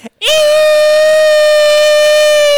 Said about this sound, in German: Wie eine Sirene begann Miller zu schreien und hörte einfach nicht mehr auf